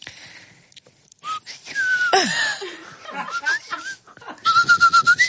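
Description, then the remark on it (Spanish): A clear message in Silbo whistled language, read out by a single whistler: gliding, speech-like tones that rise and fall, broken by brief pauses and a few chuckles, ending in a quick run of pulsed whistles. “La voy a leer con silbo.”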